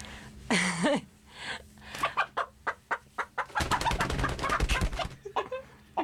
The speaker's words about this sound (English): This is one of our hens. It's the it's a barred rock, and barred rocks are black and white, and they're one of the better breeds.